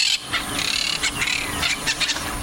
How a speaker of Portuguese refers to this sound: Caturritas sempre em bando.